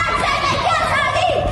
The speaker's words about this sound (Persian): عده زیادی کودک و نوجوان، نشانه‌ای از فراگیر شدن بیشتر اعتراضات. نسلی که زن، زندگی، آزادی را این چنین فریاد می‌زنند.